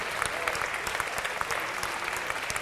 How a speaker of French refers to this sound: Allez, Élise, on l'applaudit. On l'encourage à monter. Ça, c'était prévu. Elle se fait toute la salle sous les applaudissements. Bravo.